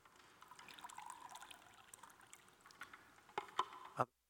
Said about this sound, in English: I better take a bit of water here.